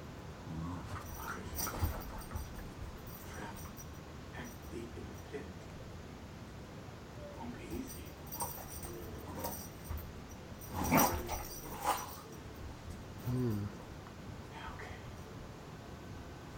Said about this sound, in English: Yeah. One bark for yes.